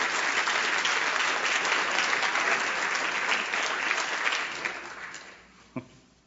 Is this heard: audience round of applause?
yes